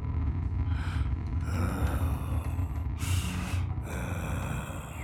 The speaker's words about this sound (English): Heavy breathing slowly filled the silence.